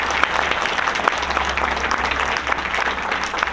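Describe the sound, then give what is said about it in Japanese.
Sustained audience applause for a musical performer after a performance, a dense steady patter of many hands clapping at an even loudness throughout, with no voices standing out. “どうぞもう一度盛大な拍手をお送りください。”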